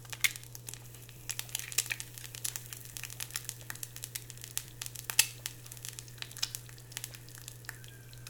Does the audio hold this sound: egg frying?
yes